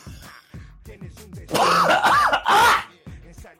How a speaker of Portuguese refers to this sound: eu tô muito zoado, cara. Não vou conseguir gravar esse podcast. Eu tô tossindo, eu tô todo fodido